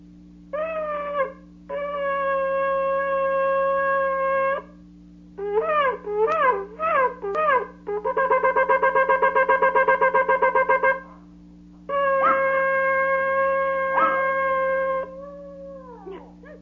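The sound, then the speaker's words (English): A pet dog starts up howling in a series of long, high, wavering cries, some steady and some rapidly warbling, broken by short pauses over a constant low hum. “That was my dog starting up.”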